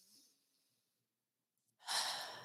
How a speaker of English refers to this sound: But just breathing in and breathing out. Just breathe.